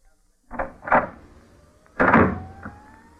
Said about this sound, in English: The door was closed very lightly in the studio, in keeping with the mood of the scene. But the control dial on the sound effects mic was not, and that was the result.